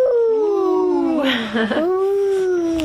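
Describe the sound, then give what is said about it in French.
A person telling a story about a wolf imitates a wolf howl with a long, sustained vocal tone that dips in pitch midway and then rises again, fairly loud, lasting about three seconds. “C'est l'histoire de quoi? Le loup. Ouh.”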